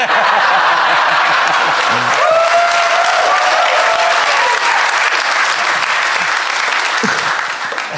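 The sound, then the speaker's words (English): Loud, sustained applause from an audience, a dense steady patter of many hands clapping for the full duration, with a few scattered laughs and whoops mixed in. “You applaud now.”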